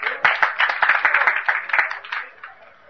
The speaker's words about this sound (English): He's the Supreme Godhead. Here, it's here. Let's have a loud applause here.